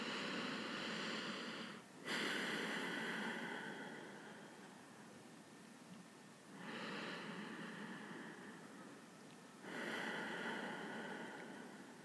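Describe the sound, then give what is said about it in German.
Slow, deep breaths during a seated breathing exercise, one hand below the navel and the other on the chest: airy inhales through the nose and longer exhales out through the mouth, repeating in about three steady cycles with no talking. “Wir atmen wieder durch die Nase ein, durch den Mund aus.”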